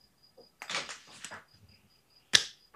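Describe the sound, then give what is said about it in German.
A coin being tossed for heads or tails, landing on tails: about a second of scraping and fumbling, a short pause, then one sharp, bright metallic ping that rings briefly before fading. “Kopf also, oder Zahl? Hast du die Münze parat?”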